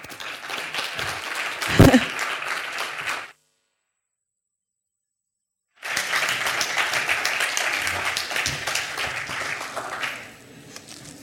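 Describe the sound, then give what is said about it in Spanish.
Dense audience applause at the opening of a round-table panel event fills the opening seconds, breaks off into a few seconds of silence, then returns as a second sustained round of steady clapping that gradually fades out. “Así que, como somos pocos, vamos a tener que dar un aplauso muchísimo más fuerte.”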